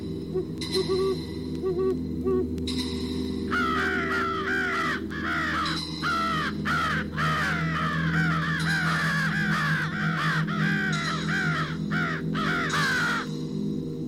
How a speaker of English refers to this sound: Crow and owl fight.